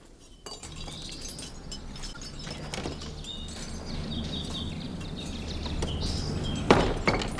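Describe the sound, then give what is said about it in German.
Fire-resistant bricks that sealed the firing chamber opening of a cooled kiln clink and scrape as a worker from the firm Wilhelms Thiel removes them one by one, with scattered sharp, hard knocks over a steady low rumble and faint high chirping in the background. “Ein Mitarbeiter der Firma Wilhelms Thiel hat den erkalteten Ofen Stein für Stein geöffnet.”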